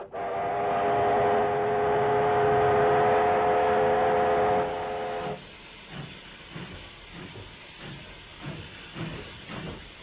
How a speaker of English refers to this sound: They still have some steam engines running at the local transport museum.